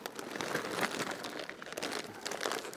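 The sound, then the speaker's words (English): Wrapping paper crinkles and rustles steadily as it is handled, a dense run of crisp crackles with small bursts, no voices over it. It is last year's wrapping paper, being reused to wrap a Christmas present. “One of those things where when my mum came for Christmas, she said, oh, I can't possibly rip the paper. Let's just take it apart very neatly. So we can use that again.”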